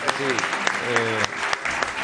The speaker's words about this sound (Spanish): No, pues llévese este aplauso nuestro de cariño